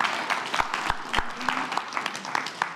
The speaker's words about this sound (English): And so we can clap for that. I mean, that's worth clapping for.